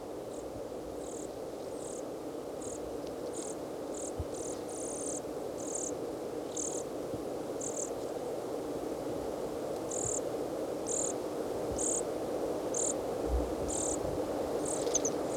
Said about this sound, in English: juvenile dorsalis junco, and at least one adult. Juvenile is making sort of a buzzy call as it follows the adult around and begs from it.